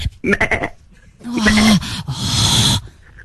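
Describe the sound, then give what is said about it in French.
A person imitates a little goat, a wavering nasal 'meeeh' bleat held for a moment, followed by breathy, hissing vocal noises, with no other talk. “Tu es une petite chèvre. Fais-moi la biquette.”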